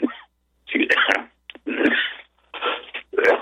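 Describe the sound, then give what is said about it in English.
A run of about five harsh, raspy coughs in quick succession, each a loud breathy burst separated by brief silent pauses, with no talking in between; a lingering cough that has lasted three weeks. “This cough wants to hang on, even after 3 weeks.”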